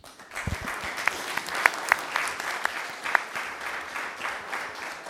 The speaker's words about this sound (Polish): Dlatego też chciałem wszystkim tutaj zgromadzonym podziękować za te oklaski. Bardzo mi miło było.